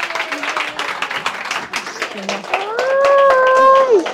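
A crowd applauds a woman invited up on stage, with dense, steady clapping for about four seconds, and a high, sustained vocal cheer rises over the clapping near the end.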